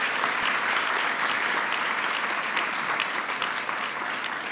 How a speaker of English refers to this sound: Please give them a big round of applause for their great work.